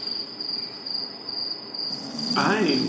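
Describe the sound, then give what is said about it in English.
Steady, continuous cricket chirring fills the background at a moderate level, a high unbroken trill, with a faint voice-like sound rising briefly near the end. “Crickets. I don't think I have cricket sound effects.”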